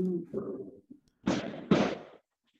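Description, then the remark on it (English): Two fireworks bursts boom about half a second apart, each a brief rumbling crackle. A voice murmurs just before them, and then everything goes quiet. “There are fireworks somewhere.”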